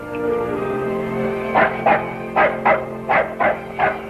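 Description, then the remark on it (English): A woman's dog barks about seven times in quick, roughly paired bursts over a steady low background hum, moderately loud, after a quiet opening stretch. “What's that? Her dog.”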